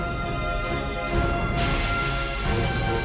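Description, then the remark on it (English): A glass window shatters midway with a bright, crashing burst that lingers as scattered fragments as Hancock leaps through it at the end of a corridor, set against a steady background of sustained music. “The glass shatters and Hancock bounces off a bus on the street below.”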